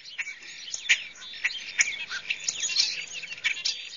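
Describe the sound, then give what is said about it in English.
Harsh, scratchy calls of a very vocal bird with iridescent purple and black markings crowd together in a noisy chatter, punctuated by sharp clicking squawks every half second or so, with no one talking. “You might hear them much sooner than you will see them, but they do have a beautiful marking colors, various iridescent purples and black.”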